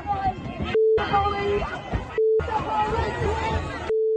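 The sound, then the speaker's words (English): Three steady, mid-pitched censor bleeps cut in and out, each replacing a short stretch of a woman's shouted speech about the police, over a busy background of crowd chatter and noise at a protest in Brooklyn Center, Minnesota. “We have to beep out what she's saying about the police because of FCC regulations.”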